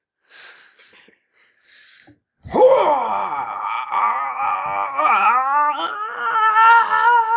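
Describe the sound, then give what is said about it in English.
A voice imitates a monster squealing as it hatches from its egg: after faint breathy noises, a loud, wavering, high-pitched groaning squeal rises and warbles continuously for several seconds. “Why is he squeaking like that?”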